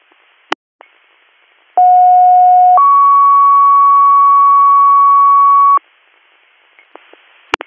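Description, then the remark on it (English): Loud two-tone dispatch alert: a steady lower tone for about a second, then a higher tone held for three seconds. Brief radio clicks and static bursts come before and after, with no talking. “just grab your tones.”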